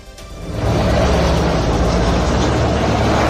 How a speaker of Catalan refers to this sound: Hasina ha abandonat Dhaka en aquest helicòpter que sentim i al cap d'unes hores ja era a l'Índia